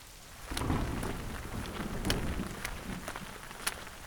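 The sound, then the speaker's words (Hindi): Heavy rain pours steadily in a dense, hissing wash, with a low rumble of thunder underneath and scattered sharp drips and splatters standing out; no voices. “एक दिन सुबह स्कूल जाते समय बहुत तेज बारिश हो रही थी।”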